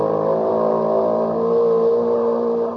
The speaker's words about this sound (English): Imagine that, a pony with an outboard motor.